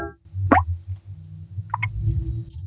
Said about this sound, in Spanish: Gotas de agua que se filtran a través del techo caen sistemáticamente produciendo un sonido atormentador.